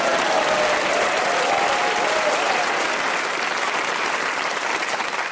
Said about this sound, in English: And you applaud him.